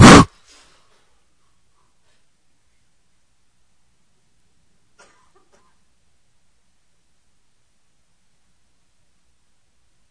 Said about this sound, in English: And with your intention now, may all that no longer serves your best and highest good that is clogged in your throat chakra to be released, removed, detached, ejected, and shielded, and with a quick burst of breath, make it so now.